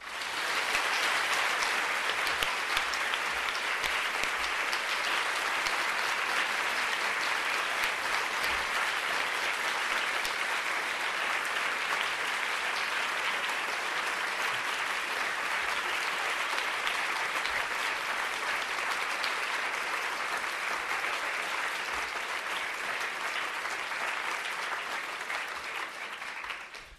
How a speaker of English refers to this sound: So I think you can tell by the applause that that was a really fantastic lecture by Laura Bates.